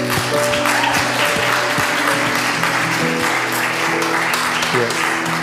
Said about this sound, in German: Lass uns ihr mal einen dicken Applaus geben.